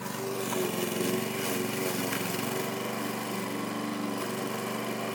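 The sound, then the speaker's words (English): A petrol lawnmower drones steadily as it is pushed around mowing the whole garden, its engine holding an even pitch with a rough, buzzing rattle throughout and no pauses. “But now I'm in my room, and he changed the lawnmower.”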